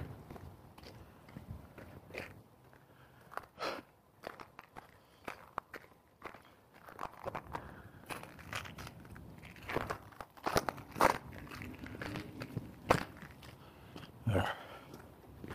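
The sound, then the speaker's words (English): Footsteps of someone hiking crunch and crackle over icy ground in an uneven, steady walking rhythm, each step a sharp brittle crunch, with no talking. “There's still some wicked icy spots. Like right here.”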